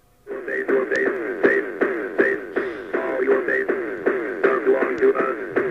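A steady telephone dial tone on a station's call-in line hums without a break for several seconds, sitting under busy, crackly broadcast sound with sharp clicks and muffled voice-like warbling.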